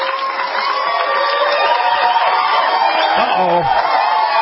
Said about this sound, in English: Uh-oh. They came out to applaud you again.